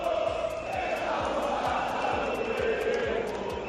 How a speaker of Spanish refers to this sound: Alrededor de 1.000 personas han protestado esta noche en las afueras de Mestalla